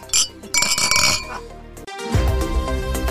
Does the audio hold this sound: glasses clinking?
yes